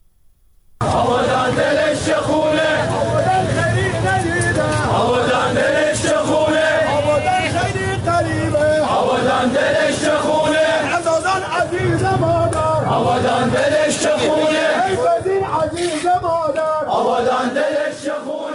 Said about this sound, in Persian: آبادان دلش خون است. این صدای مردم معترض و عزاداری است که هر شب شنیده می شود. 10 روز از فرو ریختن بخش های بزرگی از برج متروپول که منجر به کشته شدن و مفقود شدن ده ها تن شد می گذرد.